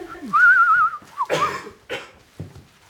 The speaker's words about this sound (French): Il sifflote, tiens.